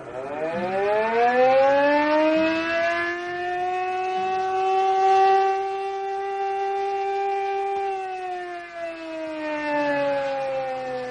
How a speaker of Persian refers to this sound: ناگهان آلارم وضعیت اضطراری به صدا در میاد.